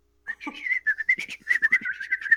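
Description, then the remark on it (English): A person whistles a quick run of short, chirpy notes from up in a tower, mimicking a bird's call with a steady pulsing rhythm and slight pitch wobbles. “All right, so you hear some bird whistles from up in the tower. I make an attempt.”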